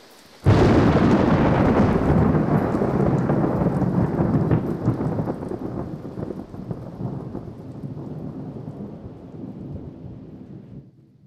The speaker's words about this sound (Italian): Non piove quasi più.